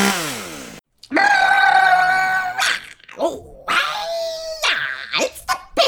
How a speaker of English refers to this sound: And speaking of taking responsibility for kills, is that a chainsaw I see drilling through the wall?